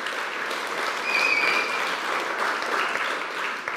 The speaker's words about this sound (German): Und weil heute kein Unti ist, sind sie im Gottesdienst. Und kommen wir geben ihnen mal einen warmen Applaus. Es ist mega schön, sind ihr da.